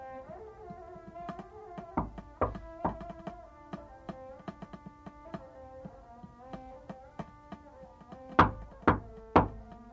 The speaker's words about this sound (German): es hat geklopft. Habe ich gehört, Professor. Ja, und wollen Sie nicht öffnen?